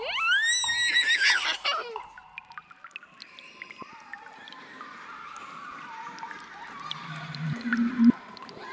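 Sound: horse neighing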